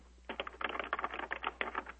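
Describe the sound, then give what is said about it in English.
Rapid, irregular typing on a computer keyboard fills most of the two seconds, a steady patter of light plastic key clicks over a low background hum, with no one speaking. “Personally, somebody's typing on their computer, so we're hearing it.”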